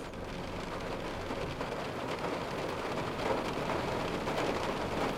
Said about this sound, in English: And we see water all around us. It's raining right now. It's rain. Everything's wet. There's just water just in abundance.